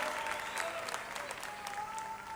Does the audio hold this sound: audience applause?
yes